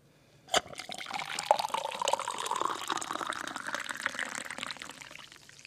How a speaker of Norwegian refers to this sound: Det var helling av kaffe hvis du hørte det, men nei, nok om det.